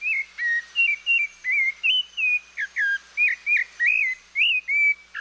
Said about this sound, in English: It's a rufous-bellied thrush, a near look-alike of our robin.